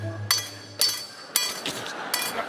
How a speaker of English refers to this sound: You can see the surgeon with the hammer and the chisel there.